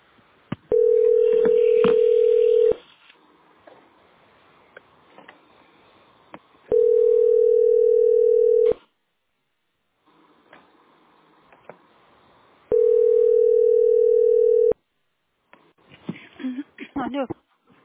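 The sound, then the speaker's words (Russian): A phone line rings back three times, each a steady two-second mid-pitched tone with long pauses between, over faint background noise, while waiting on the line for a specialist at the company Teploenergosbyt SPB; then a voice briefly begins talking at the end. “Они так телефон долго поднимают.”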